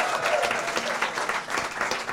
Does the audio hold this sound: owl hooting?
no